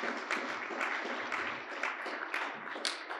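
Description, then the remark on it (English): Steady audience applause, a dense wash of many hands clapping at once, fairly loud and sustained throughout without any talking over it. “A round of applause.”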